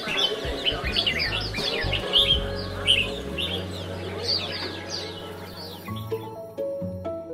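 Many caged songbirds, brought out by their mostly retired owners for a daily sing, sing at once in a dense, continuous chorus of bright chirps, trills and whistles over a low background hum and murmur.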